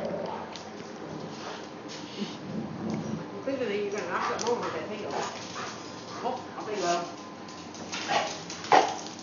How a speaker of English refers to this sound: What kind of dog are you? Oh, now they're both going.